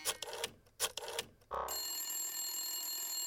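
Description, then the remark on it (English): A telephone rings in two quick bright bursts, then a steady electronic tone holds until the end. It is moderately loud, with no voices. “The little fly grabbed its fly phone and dialed up every fly in the county.”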